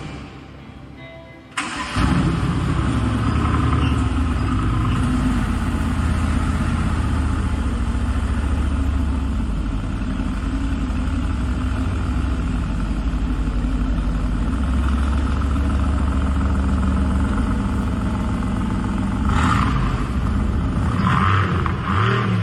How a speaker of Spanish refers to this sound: este maravilloso, impresionante GTR color Solar Beam que tenemos disponible en Veste. Motor V8 biturbo 585 caballos, 700 Nm, ensamblado por un solo ingeniero.